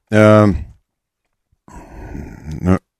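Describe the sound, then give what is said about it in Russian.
A loud human yawn: a short voiced groan followed, after a pause, by a long breathy exhale that ends in another brief voiced moan. “Не зеваю, я и так зеваю.”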